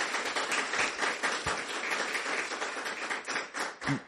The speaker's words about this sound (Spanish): Entonces, denle un aplauso al Señor.